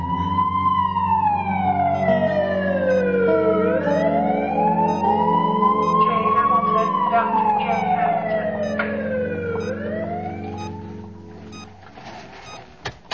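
A loud ambulance siren wails, sweeping slowly up and down in long rising and falling tones with no one talking, easing off slightly near the end.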